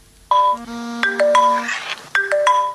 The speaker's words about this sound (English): Social media notification on Sally's phone